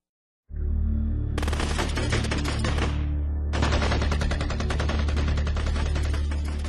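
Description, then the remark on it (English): Loud automatic gunfire from AK-47s, fired from the windows of a keep onto people in the streets below, in two long, rapid bursts of sharp, crackling shots separated by a short pause, with a steady low rumble underneath and no voices. “The sound of sporadic firing came from the streets, the brown shirts in the windows of the keep spraying the people below with their AK-47s.”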